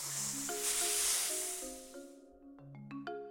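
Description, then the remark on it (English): A snake gives one long, loud hiss that fades out after a couple of seconds, while a bright, plinking little melody plays underneath and carries on alone. “It's a snake.”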